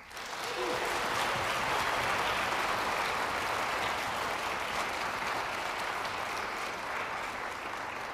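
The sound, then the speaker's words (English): An audience at a Cornell University Wind Symphony concert applauds the drum set soloist steadily, a dense wash of many hands clapping at a constant loud level for several seconds without a break or any voices. “Before I move on, I'd like you to please join me in one more round of applause for our soloist”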